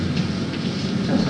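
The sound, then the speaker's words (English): A roll of paper being felt by hand, giving a dense, continuous rustling and crinkling over a low rumbling hum, steady in loudness for over a second with no voices. “Sounds like paper. Just like paper.”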